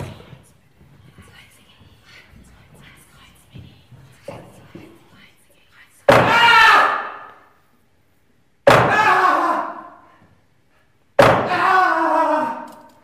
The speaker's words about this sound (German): Als der Hammer auf den Holzblock schlägt, der sich neben den Handgelenken des Jesus-Darstellers befindet, sind es nicht wenige, die zusammenzucken.